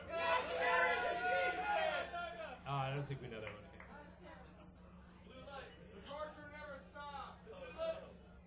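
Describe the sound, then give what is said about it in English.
An audience yells song requests all at once in a loud burst of overlapping voices, then the din settles into a jumble of scattered calls and chatter before another swell of yelling near the end. “Count to three, and I want everybody to yell your request right at the same time, okay?”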